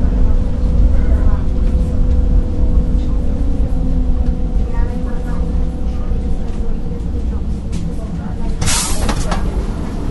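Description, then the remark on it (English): A muffled, hard-to-make-out public address announcement that the train is getting ready to depart plays over loud, steady rumbling of a metro train and station during a short stop, with a brief sharp hiss of air near the end. “That's the guy just announcing that the train's getting ready to depart.”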